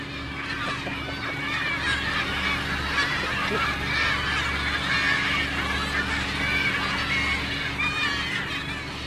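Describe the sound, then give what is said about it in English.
A noisy flock of about 500 seagulls and gannets calls over and over, waiting to be fed on leftovers thrown back into the sea from a fishing boat, many harsh overlapping cries filling the whole stretch, with a steady low engine drone running underneath and no talking. “Deck now after the seagulls.”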